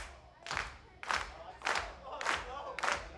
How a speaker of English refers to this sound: We gotta put the soul back into that clap. 1, 2, 3, 4.